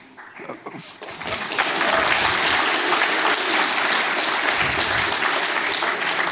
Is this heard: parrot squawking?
no